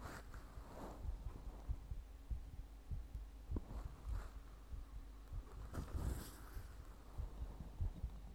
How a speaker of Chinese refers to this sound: 先生，只是让你听心跳，脸不可以来回侧哦。